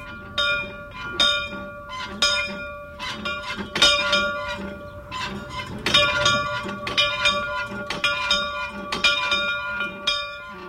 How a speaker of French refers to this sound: Cette cloche que vous entendez, qui est actionnée fébrilement par Monsieur Dubuc, président des Amis de Flaubert, cette cloche est une pièce de musée